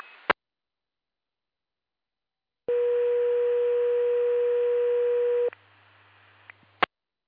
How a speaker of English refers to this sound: This is a pager test and test only of the Valcom primary paging system. Please disregard the tone to reset your pagers.